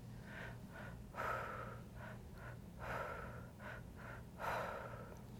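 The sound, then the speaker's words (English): Rhythmic, forceful breathing during a breathwork exercise repeats in cycles: a couple of quick short breaths followed by a deeper, louder one, recurring three times over a low steady hum, with no talking. “just tap into the breath. Use the breath to activate your energy and release.”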